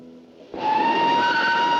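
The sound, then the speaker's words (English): At a railway station, a low rumbling background suddenly swells into a loud, sustained train sound with steady high-pitched whining tones, like a locomotive idling or moving. “Now, a preoccupied Martins is leaning on a fence at a railway station.”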